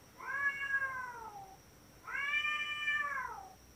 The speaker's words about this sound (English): Have you ever heard two cats having sex? I've never. It's. What day was Grace, this? Grace, can you add in just some audio of cat sex?